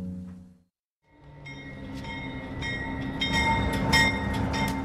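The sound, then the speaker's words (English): A passenger train on the journey from San Bernardino toward Union Station and Newhall rumbles steadily along the rails after a brief silence, with low continuous rolling noise, metallic squeals and tonal hums growing louder. “The way this train is going, it feels like it's taking forever.”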